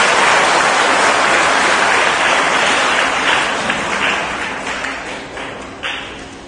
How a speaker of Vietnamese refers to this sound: Tất cả các bạn trẻ hãy dành một tràng vỗ tay thật lớn để tán dương tình trạng này.